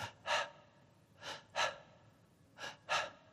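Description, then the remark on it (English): A voice imitates the shallow, labored breathing of a very sick little boy at night: three pairs of quick, breathy inhalations and exhalations in a steady rhythm, fairly quiet, with no talking. “Raymond had a very, very shallow breathing. And you could hear him breathing at night, and it was like this.”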